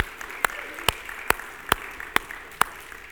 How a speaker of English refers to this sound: Hey, there go several kids to Children's Church. Let's just give them an applause, all right?